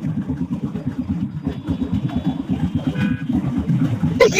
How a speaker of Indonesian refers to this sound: Ada suara genset. Lagi di jalan baru pulang kantor nih Pak.